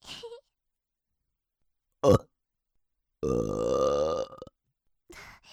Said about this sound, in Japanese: やだ、ムラムラ止まらなくてゲップ漏れちゃう。